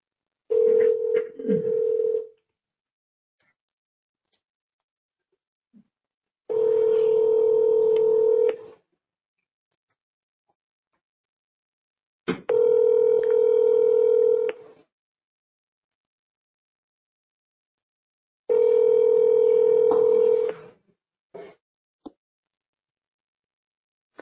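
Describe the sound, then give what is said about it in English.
A telephone line tone sounds in steady, buzzing bursts about two seconds long, repeating four times with silent gaps between, after a brief flurry of dialing beeps; no one speaks. “I'm going to phone a friend.”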